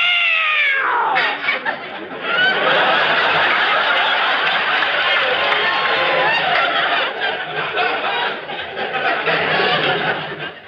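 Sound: cat yowling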